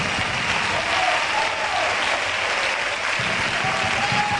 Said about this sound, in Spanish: Aplausos a los jugadores del Jerez, a la afición jerecista.